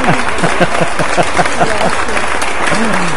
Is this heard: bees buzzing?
no